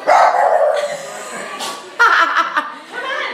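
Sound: dogs barking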